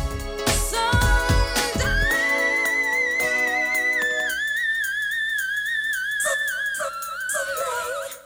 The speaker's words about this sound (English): do that whistling thing with her voice?